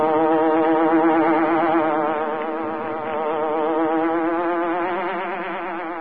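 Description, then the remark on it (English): A steady, loud electronic buzzing like a hornet, the sting of the Green Hornet on The Green Hornet radio program, with a wavering, warbling pitch and dense harmonics, sustained for about six seconds with no voices. “risking his life that criminals and racketeers within the law may feel its weight by the sting of the Green Hornet.”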